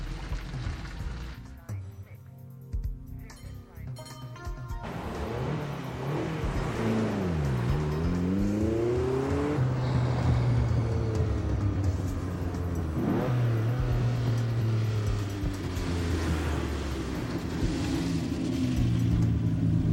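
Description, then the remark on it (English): A vintage Stutz automobile engine drives, revving up repeatedly with rising and falling pitch as it shifts through gears, a loud steady motor rumble throughout. “I'm calling to see if he's pleased with the performance of the automobile.”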